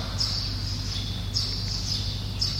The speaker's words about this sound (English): Yes, only birds are chirping.